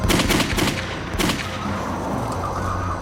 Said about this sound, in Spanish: Otra noche oyó disparos.